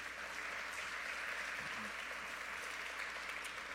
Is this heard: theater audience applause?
yes